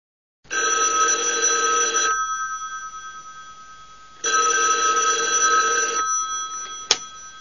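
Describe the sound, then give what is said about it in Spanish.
A telephone at a car repair garage rings twice with long electronic trills, each burst lasting about one and a half seconds with a pause between, followed by a sharp click as the receiver is picked up. “Por teléfono.”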